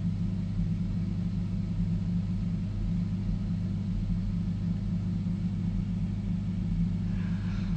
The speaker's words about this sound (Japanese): でもやるにはこれを止めなきゃいけない、この扇風機を。扇風機止めるのは辛いな、止めたくないな俺。